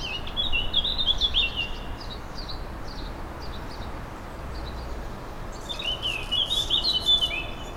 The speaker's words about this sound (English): But much as the lockdown itself has changed for us here in Germany, the sounds of my neighborhood have also kept pace, and I'm relieved to say these days there's much less knocking and hammering, and much more of the peaceful bird noises.